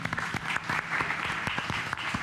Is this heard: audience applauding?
yes